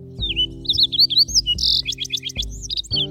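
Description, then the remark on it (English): A fox sparrow sings a rich, varied phrase of clear whistles and quick chirps, ending in a rapid trill-like run of notes, over a steady low hum. “And a fox sparrow is just, I mean, it's almost a thrush, but it's still a sparrow.”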